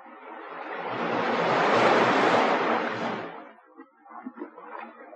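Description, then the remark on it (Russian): A single wave swells and crashes on the shore in a broad, loud wash of surf, then recedes into softer fizzing and bubbling water as it drains back. “Вот оно море.”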